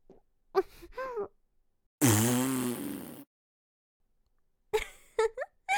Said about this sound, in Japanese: あ、また出そうかも。次はおっきめのおなら。しっかりとそのかわいいお顔で受け取ってちょうだい。